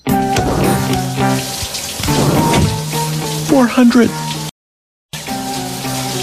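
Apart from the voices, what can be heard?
shower water running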